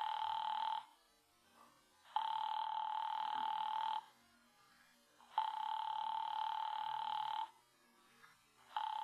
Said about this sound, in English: Why didn't she pick up that phone? Your party doesn't answer.